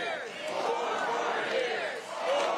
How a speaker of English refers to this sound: A very unenthused 4 more years? I'm not convinced. I don't think the crowd's convinced.